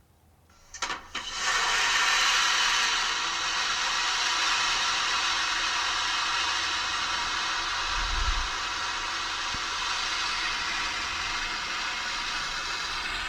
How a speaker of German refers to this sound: Flugzeugtoilette. Okay, ich habe hier Spülung gehört. Klospülung, ja. Klospülung. Ich hätte Flugzeugtoilette gesagt, war aber zu lang dafür. Ja, Flugzeugtoilette ist schon nicht schlecht. Und ich finde auch, es klingt wie eine Klospülung.